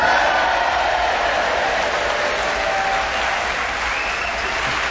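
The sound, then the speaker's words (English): A large Hastings audience at the White Rock Theatre applauds and cheers at the start of an edition of Just a Minute, steadily and loudly throughout, a dense wash of clapping with cheering mixed in, sustained without a break for the whole five seconds. “And as you can hear, we have a very quiet, subdued Hastings audience ready to cheer us on our way to begin the show this week with Graham Norton.”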